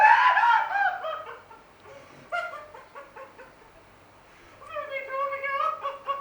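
A person cries and screams nearby, starting with a loud wail, breaking into choppy sobbing gasps, then rising into another drawn-out, high-pitched cry.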